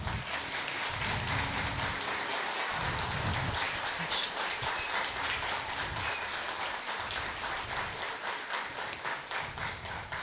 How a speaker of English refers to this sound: And so we want you today to just clap your hands, not only for the kids, but for them serving with such a pure heart today.